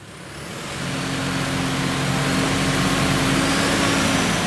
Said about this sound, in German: Der Traktor auf dem Prüfstand kommt tüchtig auf Touren. Während der Motor der Maschine hochdreht, messen die Experten am Technologie- und Förderzentrum Straubing Kraftstoffverbrauch, Stickoxide und Feinstaub